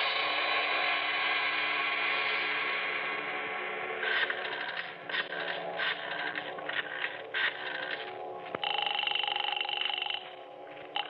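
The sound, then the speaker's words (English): A steady telephone tone gives way to a quick series of clicking dial pulses, then a ringing tone sounds on the line, with no voices. “I had to phone your father. I had to talk to him.”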